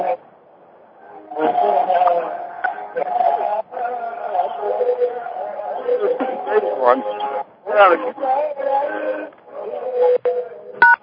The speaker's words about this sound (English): Okay, someone's got the radio on.